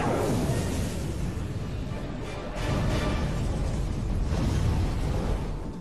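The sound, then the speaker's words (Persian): A barrage of missiles is fired at an entrance door and explodes, blending into a loud, continuous rumbling roar with heavy low-end booms that lasts the whole stretch, with no one talking over it. “تمام موشک‌ها را به سمت در ورودی شلیک کنین.”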